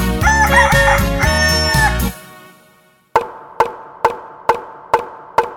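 A loud, bright rooster crow with clucking fills the first two seconds, fades out, then after a brief pause a steady series of sharp, evenly spaced knocks follows.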